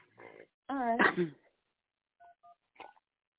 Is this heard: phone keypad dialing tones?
yes